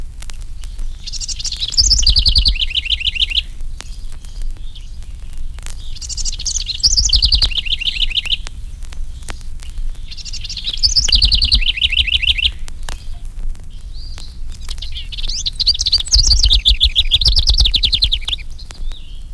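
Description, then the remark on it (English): Two house wrens sing bubbling, rapid songs, four high-pitched bursts of quick trills and chatters roughly every four to five seconds, loud and clear over a steady low rumble, with no talking. “Here are the bubbling songs of two house wrens.”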